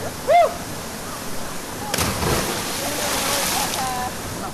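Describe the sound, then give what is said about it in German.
A short rising and falling whoop, then a sudden splash as a person jumps 3 metres from a rock into the cold water of a natural rock pool, followed by a few seconds of churning and sloshing. “Dann stürze ich mich die 3 Meter vom Felsen ins kalte Wasser.”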